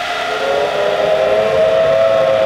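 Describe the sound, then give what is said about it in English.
A civil defense air raid siren, warning of enemy planes and a possible atomic bomb attack, sounds a loud, sustained wailing tone that holds a steady mid pitch and swells slightly, with no voices present. “That signal means to stop whatever you are doing and get to the nearest safe place fast.”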